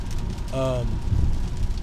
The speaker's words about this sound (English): This sideways rain. All the rain Bubba Gump talked about in Forrest Gump, it's happening right now in Tennessee.